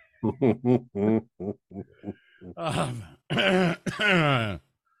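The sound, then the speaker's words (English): A voice clears its throat in several rough, voiced bursts, a few short grunting pulses followed by longer raspy, effortful clearing sounds before falling silent. “Good cough button.”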